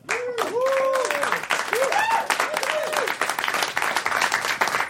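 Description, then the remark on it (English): Loud, steady applause from a sold-out live audience in Montreal welcoming host Bert Kreischer and guests Duncan Trussell and Ari Shaffir, dense clapping mixed with rising and falling whoops and cheers from several voices. “Accueillez chaleureusement votre animateur, Bert Kreischer, et ses invités, Duncan Trussell et Ari Shaffir.”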